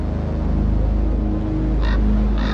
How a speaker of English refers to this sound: I walk outside and I see this raven and it's cawing like crazy. And I find that very odd. They don't normally do that at that hour, but it's her favorite bird.